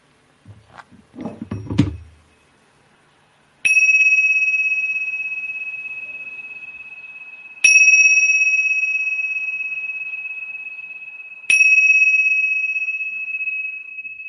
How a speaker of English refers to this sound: not rushing, staying grounded and steady and rooted, feeling the vastness, the openness through the body and through awareness as we allow the sound of the bell to flow through.